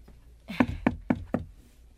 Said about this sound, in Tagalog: Kanina pa ako katok ng katok dito sa labas ng kwarto niya.